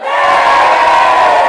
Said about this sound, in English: And it's absolutely packed in here as well. It's absolutely heaving. Okay, I think they're about to start now. Have you stopped recording yet? Have a big cheer, please, all the people from Brighton.